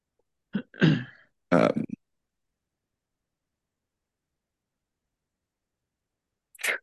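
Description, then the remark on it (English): A sudden sneeze bursts out near the start, a sharp intake followed by a loud, breathy explosion, then long silence broken only by a faint, brief noise at the end. “Bless you.”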